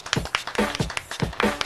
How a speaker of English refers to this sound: Why are we clapping? Because it's like with a beat.